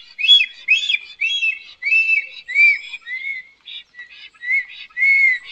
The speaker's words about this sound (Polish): tego dnia kilka razy opuszcza gniazdo i wraca, a powróciwszy za każdym razem gwizdże jak zapamiętały. Jego rekordowy koncert tego dnia trwa 2 minuty bez przerwy.